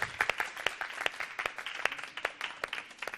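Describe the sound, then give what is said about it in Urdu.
A crowd applauds steadily to welcome a guest on a show, many overlapping claps forming a dense, crackling patter at moderate volume with no voices over it. “ایک بار تالیوں سے ان کا استقبال کیجیے گا.”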